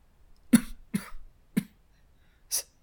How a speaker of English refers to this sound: He coughs.